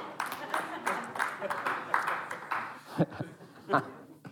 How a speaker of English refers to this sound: I don't know why the women are clapping, because that was definitely me having a go.